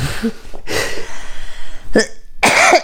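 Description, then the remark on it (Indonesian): Several loud, harsh coughs burst out at uneven intervals, with one longer raspy hack followed by two shorter, sharper coughs and brief pauses between them. “Sorry batuk masuk dikit lagi.”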